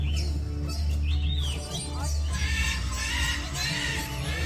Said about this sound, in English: you're missing the birds.